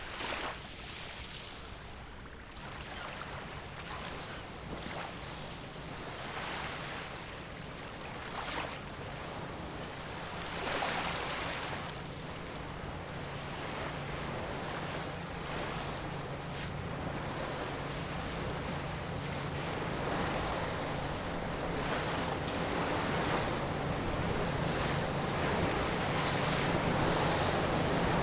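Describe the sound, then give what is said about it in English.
Steady wind buffets the microphone as waves wash and slap around a moving diving boat carrying maritime archaeologists out to a position just south of Selsey Bill and east of the Isle of Wight, with a low engine hum underneath and no voices, the sea noise swelling gradually louder throughout. “I'm on board the White Spirit, diving boat, taking maritime archaeologists from the Hampshire and Wight Trust for Maritime Archaeology out to a position just south of Selsey Bill and east of the Isle of Wight.”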